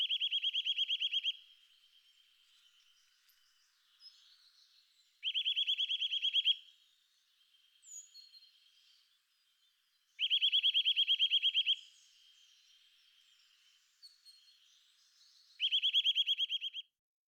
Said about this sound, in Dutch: Het is een standvogel van bij voorkeur oud loofbos of parken met hoge bomen. De roep, een helder en luid metaalachtig gefluit, is het hele jaar door te horen.